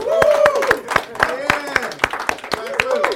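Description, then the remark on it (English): Steady, rhythmic, sharp hand clapping led by one person, about four claps per second, while voices talk and call out over the beat. “Hold on. I gotta lead the clap.”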